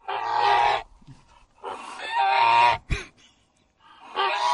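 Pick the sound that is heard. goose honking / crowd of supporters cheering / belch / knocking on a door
goose honking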